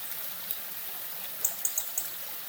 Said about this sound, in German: Stelle dir innen vor, dass ein großer Fluss zwischen zwei Bergen schnell hindurchfließt. Die Strömung ist ungeheuer schnell, wie ein Donner.